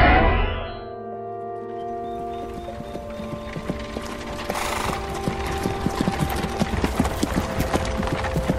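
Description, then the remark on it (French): Horse hooves clip-clop at a steady walking pace, growing denser and more distinct after the first couple of seconds, with a low sustained tonal drone humming beneath them. “Toutou le cheval, hein?”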